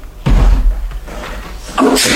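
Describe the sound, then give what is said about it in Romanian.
A heavy thud at the front entrance door, like someone knocking or slamming, followed by a quieter rattling and a second bump near the end, with no talking. “Ai auzit? A strămutat cineva la ușa de la intrare.”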